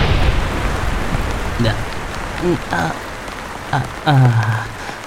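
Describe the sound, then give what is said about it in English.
Steady rain falls throughout with a dense, even hiss, while a few short voiced sounds, like someone speaking or murmuring, rise briefly over it. “Rain.”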